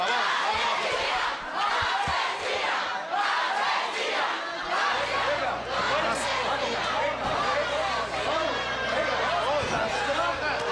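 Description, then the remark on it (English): A large, angry crowd chants "Murderer, murderer" loudly and continuously as a woman in handcuffs emerges from a building, voices massed together in a dense roar, with a low steady rumble joining underneath about halfway through. “As Vázquez emerges from a building in handcuffs, the crowd chants, "Murderer, murderer."”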